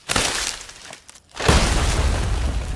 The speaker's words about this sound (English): The sound of the broken branches and nuts crashing to earth echoes through the village, reaching the sharp senses of a tawny owl.